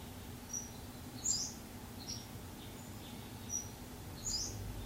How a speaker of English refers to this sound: You notice the birds.